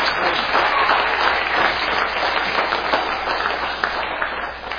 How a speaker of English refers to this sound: Let's hear a round of applause.